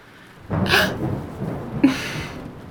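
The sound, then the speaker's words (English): A sharp, loud thunder clap during a thunderstorm bursts in and rolls on with a broad rumble, followed a moment later by a second, slightly weaker crash. No one speaks. “The thunder's loud and scary.”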